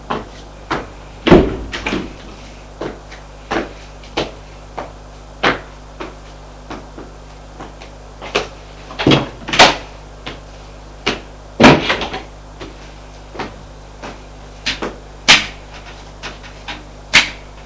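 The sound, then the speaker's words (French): Steady knocking on a door: a long series of sharp, evenly spaced raps, broken by a few heavier bangs and thuds of the door moving. No voices are heard. “On frappe à la porte.”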